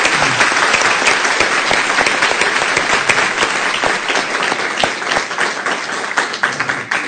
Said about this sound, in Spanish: Esto está saliendo en directo, de manera que aplaudir fuertemente a todos.